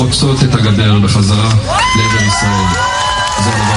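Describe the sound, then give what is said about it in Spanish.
A large crowd in Tel Aviv cheers loudly and continuously, with shouts and rising whoops over a dense wash of clapping and many voices, energetic throughout, on news that four women held hostage had been handed over by Hamas to the Red Cross in Gaza. “Y así se escuchaban los gritos y aplausos en Tel Aviv al conocerse que las mujeres Liri Albag, Karina Ariev, Daniela Gilboa y Nama Levi habían sido entregadas por Hamas a la Cruz Roja en Gaza.”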